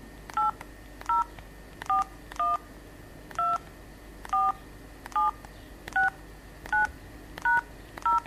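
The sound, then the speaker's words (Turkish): Eleven telephone keypad tones beep one after another at a steady, unhurried pace as an 11-digit account number is keyed into Türkiye İş Bankası's interactive phone service, each a short two-note electronic chirp over faint line hiss, with no voices. “Lütfen 11 haneli hesap numaranızı tuşlayınız.”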